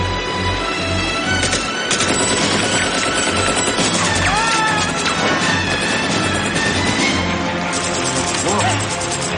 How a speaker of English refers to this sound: So Rambo gets a little bit of hope here. He sees the copter. Hears the gunfire. He sees that the American chopper is taking out Viet Cong.